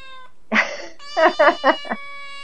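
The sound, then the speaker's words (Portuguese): Small kittens meowing: one drawn-out cry followed by a quick run of four short, high mews, with a faint steady tone humming underneath. “Ai, que fofo esses gatinhos.”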